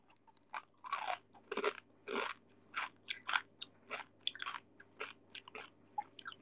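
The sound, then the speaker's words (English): Someone munches basreng, a crunchy fried snack, with about fifteen sharp, crackly crunches coming in an uneven chewing rhythm. No one speaks, and only a faint low hum sits underneath. “Sounds like you eating basreng.”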